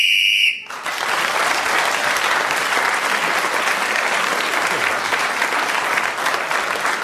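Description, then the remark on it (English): A single short, shrill whistle blast ends the round just after Clement Freud's challenge, then cuts straight into loud, steady applause from an audience that carries on for several seconds. “So, Clement Freud getting in just before the whistle, gained an extra point and has just taken the lead”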